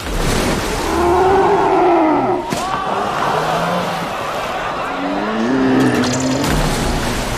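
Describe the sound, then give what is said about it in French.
A huge, deep creature roar rumbles and wavers for several seconds, loud and close, with layered growling tones swelling again toward the end, like a film monster. “Vous venez d'entendre un extrait du film Jurassic World où on peut voir une énorme femelle mosasaure.”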